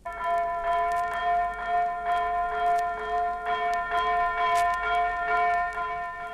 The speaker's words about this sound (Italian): Ascolta, la campana a stormo.